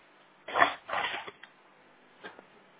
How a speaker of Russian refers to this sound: А, секунду, подождите, сейчас я листок ручку возьму.